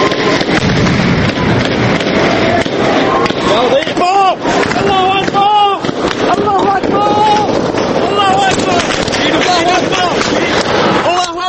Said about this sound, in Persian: فقط صداهاست که شنیده میشن. صدای گلوله و فریاد مردم.